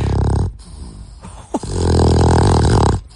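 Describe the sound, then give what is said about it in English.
A dog that is part pug, chihuahua and bull terrier snores loudly while napping, in deep, rumbling, rattly breaths, two long drawn-out snores separated by a brief pause, with a low bass growl-like quality and no talking. “All those breeds are known to snore.”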